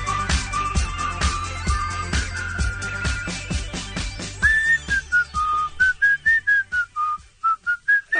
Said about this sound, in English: I don't think we need any more whistling. I think the song covers it pretty well.